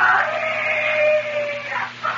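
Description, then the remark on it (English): A single long, drawn-out yell carries from far off at the bottom of a hill toward morning, holding one wavering pitch for nearly two seconds before trailing away, with a faint steady hum beneath it. “Once toward morning, he heard a yell from the bottom of the hill.”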